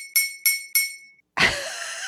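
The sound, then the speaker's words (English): A knife taps a drinking glass three times in quick, even succession, each strike ringing bright, and the tone lingers briefly. A louder, rougher burst of noise follows and fades out. “That's me hitting a knife on my glass.”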